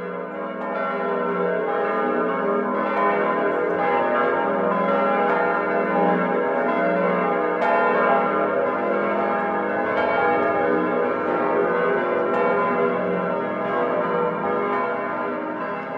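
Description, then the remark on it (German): Several large church bells of the late-Gothic Frauenkirche cathedral in Munich ring together in a full, continuous peal, their overlapping strikes and long resonant hum filling the space steadily for the whole stretch, with no voices. “Und wie die Türme die Skyline von München prägen, so prägen die Glocken der Frauenkirche den Klang der Stadt.”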